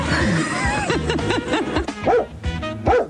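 A dog barks in a quick series of sharp, yappy barks, fairly loud, with faint background chatter beneath.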